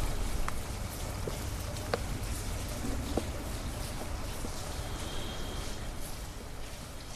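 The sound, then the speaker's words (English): Steady, soft summer rain patters continuously, falling on a woman's bare scalp, with a few sharper individual drops ticking now and then over a broad wash of dense, even noise; no voices. “In the final scene, the woman appreciates the new sensation of summer raindrops on her bare scalp.”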